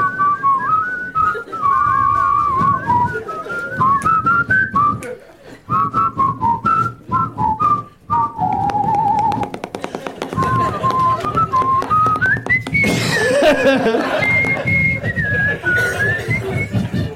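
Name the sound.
person whistling a melody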